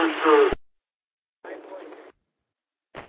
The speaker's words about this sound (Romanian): Apare numai purtătoarea și vocea se întrerupe, schimbat.